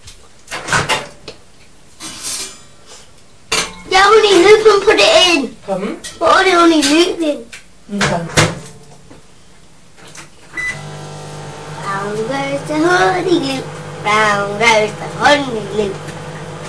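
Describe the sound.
Clicks and clunks like a door closing, then a microwave starts and runs with a steady low electric hum while people talk over it nearby.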